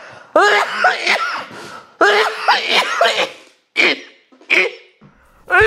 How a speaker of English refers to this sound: That sounds like a pretty bad cough. Oh, I had a cramp by coughing.